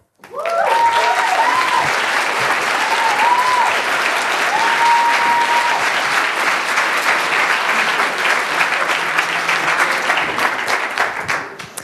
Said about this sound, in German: Danke für die freundliche Begrüßung und den Applaus und schön, dass ihr da seid.